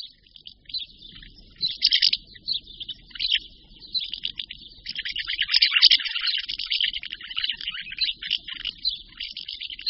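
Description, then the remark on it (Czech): A house sparrow chirps steadily through the whole recording, a dense run of short, high twittering notes that rise and fall in loudness, with no voices present. “Na naší nahrávce slyšíme v pozadí vrabce domácího, který se významnou měrou promítá do úspěšnosti hnízdění našich jiřiček.”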